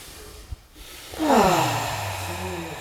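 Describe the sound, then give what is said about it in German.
A long, deep breath drawn in through the nose during a guided breathing exercise, starting after a brief quiet moment and continuing as a steady, airy rush, with no talking. “Und aus. Tief ein.”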